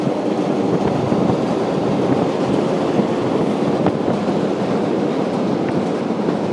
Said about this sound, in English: Take two. I was very politely interrupted by a train there. I really wanted that to happen. This is the 25th of April bridge, renamed after the Carnation Revolution in 1974 here in Lisbon, the capital of Portugal.